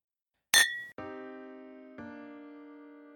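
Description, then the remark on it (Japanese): Glasses clink together in a toast, one of juice and one of whiskey on the rocks: one sharp, bright clink, then two clear ringing tones about a second apart that linger and slowly fade, with no voices. “乾杯。”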